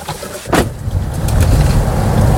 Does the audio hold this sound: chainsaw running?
no